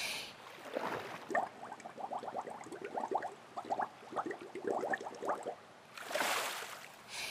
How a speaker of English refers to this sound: First, you're gonna learn to breathe underwater. Watch me for now. You're gonna inhale, place your face in the water, then exhale for a count of five, like so.